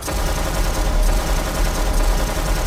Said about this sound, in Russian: Стрельба очередью.